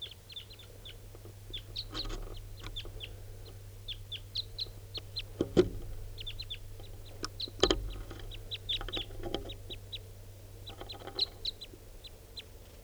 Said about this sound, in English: It's a red male. Recording at 6:43, more wild birds coming in, different birds.